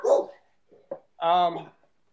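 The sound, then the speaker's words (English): A dog gives a short yip followed by one longer, drawn-out bark with a whining tone. Brief murmurs of voice come just before it. “Even the dog's mad about this.”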